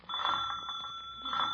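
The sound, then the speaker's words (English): A doorbell rings in one continuous, rattling burst lasting over a second, loud, with a bright metallic tone and no voices. “Where's the bell?”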